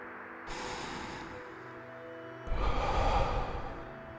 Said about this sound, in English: Take a nice filling breath in. Breathe deeply in through your nose and breathe out slowly through your mouth.